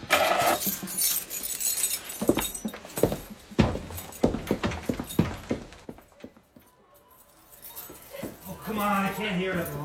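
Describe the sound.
A bunch of keys jangles and clinks in a busy burst of metallic rattles, with muffled voices around it and a brief whine near the end.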